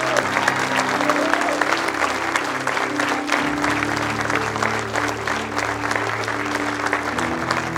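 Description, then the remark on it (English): Sustained applause from a large crowd fills the space, steady and loud throughout, with a low sustained musical hum underneath and faint voices mixed in. “Yes, would you keep clapping?”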